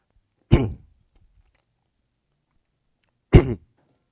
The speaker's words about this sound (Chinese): 对不起哈，最近因为感冒哈，声音是非常的沙哑，而且咳嗽哈，所以呢，不好意思，我还是需要有一些的帮助我才能够讲。